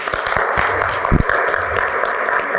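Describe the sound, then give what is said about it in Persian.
An audience at the end of a training course session claps for themselves, a dense wash of many hands with a few sharper individual claps standing out, sustained and fairly loud throughout. “دیگه بیاید بیاید تو خودآگاه خودتون رو تشویق بکنیم.”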